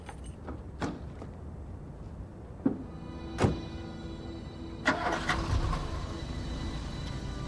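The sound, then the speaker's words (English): A few sharp clicks and thumps, like a car door shutting, then a car engine turns over and rumbles steadily as a woman drives her car away from a house, with no voices. “Still hidden behind the bushes, Ray watches her drive off and walks away from the house.”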